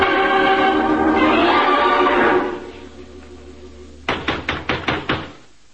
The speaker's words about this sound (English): There was no answer to my knock.